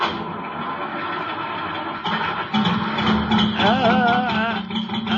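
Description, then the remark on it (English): In freezing weather, a cold car engine turns over and catches at about two seconds, then idles roughly with a steady low drone and a wavering whine as it revs. No one speaks. “If I can just keep the motor running until it warms up.”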